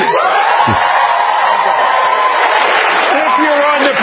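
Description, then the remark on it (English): A large crowd cheers and shouts continuously to show agreement when asked by a speaker, a dense, loud roar of many voices with scattered whoops that holds steady for about four seconds. “First question, do you agree with him? Cheer right now.”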